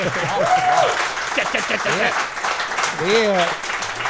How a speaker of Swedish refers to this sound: Och då, nu är det ju publik här. Och då, jag känner mig så här lite grann som Anders Eldeman. Han kör Melodikrysset inför publik. Då vill man ju alltid höra att det är en applåd för att tro att det är publik där. Nu måste ni applådera.